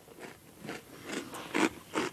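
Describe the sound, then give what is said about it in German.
Chewing with crunchy, wet bites repeating in a loose rhythm, about five distinct munches, the last two louder, with no talking. “Es kaut noch”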